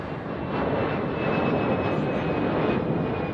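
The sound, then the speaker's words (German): A steady airplane engine roar just after the plane has landed fills the whole stretch, a dense continuous rumble with a thin high whine running through it and no voices. “So, Flugzeug ist gelandet, aber es war ein sehr ruhiger Flug tatsächlich, weil sehr viele Krieger sehr müde waren.”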